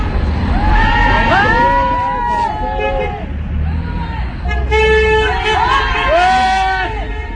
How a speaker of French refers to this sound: C'est des voitures qui passent, qui klaxonnent, on soutient la bannière.